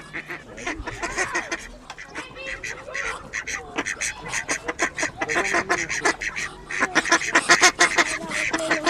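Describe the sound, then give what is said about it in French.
An excited male Muscovy duck on a farm, raising its crest, hisses and calls in rapid, repeated bursts, the busy, breathy sounds continuing steadily and growing slightly louder toward the end. “on peut observer justement le canard qui est en plein état d'excitation, il crée sa crête, alors lui c'est un mâle de barbarie”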